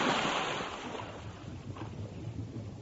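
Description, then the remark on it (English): A loud, rushing splash as someone lands in a lake after a fast parachute descent, bursting at the start and settling into a churning, sloshing wash, with no voices present. “Water. Felt like water.”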